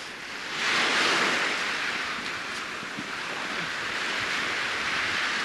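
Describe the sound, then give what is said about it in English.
Steady ocean surf rolls onto Waikiki Beach, Hawaii, on the morning of May 31st, 1975, a broad wash of breaking waves that swells louder after the first second and then holds as a continuous roar, with some wind noise and no voices. “This morning, Srila Prabhupada's morning walk takes place on Waikiki Beach, Hawaii, on May 31st, 1975.”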